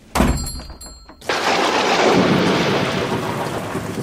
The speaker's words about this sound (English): Oh, God. It's still raining.